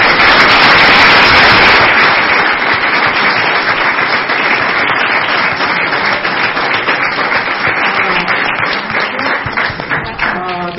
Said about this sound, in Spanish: Bueno, vamos a aplaudir acá a nuestros invitados que han venido de lejos.